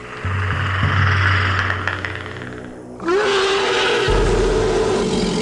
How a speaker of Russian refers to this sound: К концу первого месяца, на рассвете в чаще леса, раздался такой оглушительный рев, что листья на ветках задрожали и стали опадать, а у трусишки душа ушла в пятки.